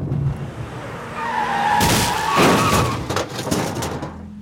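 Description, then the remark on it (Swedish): A car brakes hard and skids, with tires squealing in a loud screech that swells over a couple of seconds and then fades, followed by a few rattling thuds. “Du har sakta in lite grann, men det räckte inte. Vakten hoppar ur bilen.”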